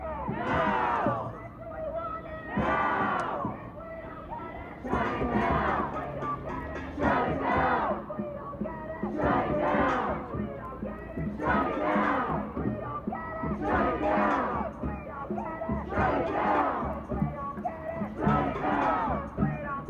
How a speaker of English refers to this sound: Those were chants from just beyond the fence of Deering Meadow, the site of Northwestern's Gaza Solidarity encampment.